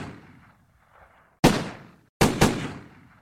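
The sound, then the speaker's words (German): Three loud, sharp gunshots ring out after a brief quiet stretch, each crack trailing off in a short echo, the last two fired close together, over the parking lot of a discotheque on a highway in a suburb of Medellín, Colombia, in the morning. “Juli 1994 peitschten 12 Schüsse über den Parkplatz des El Niño, einer Diskothek an einer Schnellstraße in einem sehr schäbigen Vorort der kolumbianischen Stadt Medellin.”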